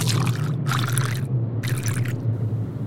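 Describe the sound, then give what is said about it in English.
Liquor pours over ice cubes into small glasses in three short, splashy bursts with brief pauses between them, fairly loud, over a steady low hum in the background. “Yuri fished out two small ice cubes for each glass, then lifted the bottle.”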